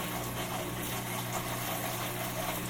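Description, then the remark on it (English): A washing machine hums steadily as its spin cycle gently starts while the drain pump runs and water flows, a constant low motor drone with a faint vibrating buzz and broad whooshing noise, unchanging in loudness, with no voices. “And I believe that the spin cycle engaged just slightly.”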